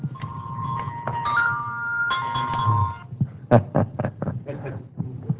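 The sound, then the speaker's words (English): A pretty ringing chime sounds several overlapping sustained, bell-like notes over a low hum, then gives way to a quick run of bright, short struck tones. “That's a pretty chime, isn't it?”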